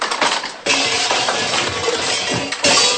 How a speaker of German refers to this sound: Puh, bin ich doch glatt mit der Stahlrüstung umgefallen.